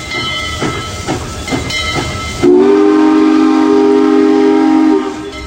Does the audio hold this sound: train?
yes